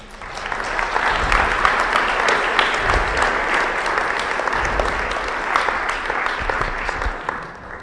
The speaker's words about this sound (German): Ihr Lobpreiser auf der Bühne habt vielen Dank. Das war so gut. Ja, können wir eigentlich mal klatschen.